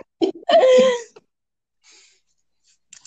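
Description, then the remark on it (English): A person coughs: a short rough burst followed by a longer, raspy, throaty cough. Quiet breathy sounds come after it, with no talking. “Got her coughing. Choking on new memories, huh?”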